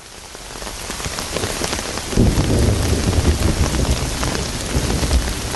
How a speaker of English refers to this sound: We're talking this hour about rain. Rain in poetry, rain in song, rain in puddles in our lives, and what happens when the rain doesn't come or comes too fiercely.